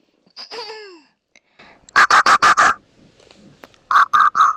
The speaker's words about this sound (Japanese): ちょっと、椅子。ちょっと座椅子に座ってるんで、ちょっと移動します。よいしょ。